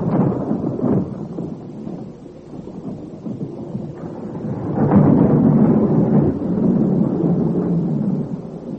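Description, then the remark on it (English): A thunderstorm with deep rolling thunder rumbling steadily, swelling louder about halfway through and staying heavy, with a hiss of rain underneath and no voices. “The storm brought you to us swiftly, my lord.”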